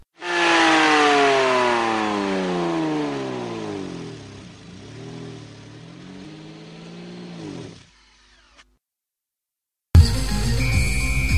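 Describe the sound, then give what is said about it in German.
A powerful 1000 hp offshore racing boat engine, one of two fitted in each boat, revs loudly, its roar climbing and dipping in pitch for several seconds before cutting off. After a short silence, a different loud sound starts. “Jedes Boot hat zwei dieser Aggregate mit jeweils 1000 PS eingebaut.”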